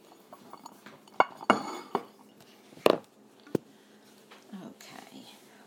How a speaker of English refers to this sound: Now, let's take this and put it in the dishwasher.